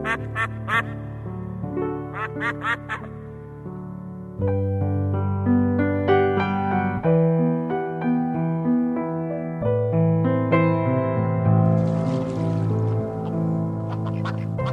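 Steady instrumental music, with bursts of duck quacks mixed in: a cluster in the opening seconds and another near the end, sitting clearly on top of the melody.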